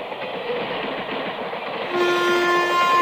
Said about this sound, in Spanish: Trenes de Buenos Aires. ¡Ay, lo dije! ¡Trenes! ¡Ay, perdón! Ahí viene, mirá, esta es una locomotora.